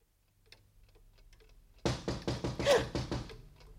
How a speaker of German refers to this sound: Da draußen, jemand gegen die Tür klopft. Das wird jemand von der Polizei sein.